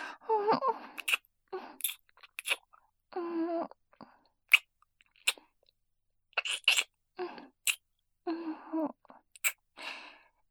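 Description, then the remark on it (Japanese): Soft, wet kissing sounds with sharp little lip smacks in an irregular series, broken by breathy sighs and faint murmured moans. Quiet and unhurried, with no words spoken. “激しいディープキスもいいけど、静かなキスも、やっぱり素敵。”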